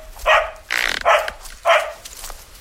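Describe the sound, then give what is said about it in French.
A female dog, leading its owner into woodland undergrowth, barks three times, each sharp bark separated by a brief pause, with a rougher, breathy burst between the first and second barks. “Elle suit sa chienne qui l'entraîne dans un sous-bois.”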